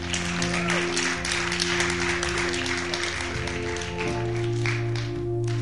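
Steady audience applause fills the whole stretch: a dense, crackling wash of many hands clapping at once, with sustained low musical tones humming underneath and no voices.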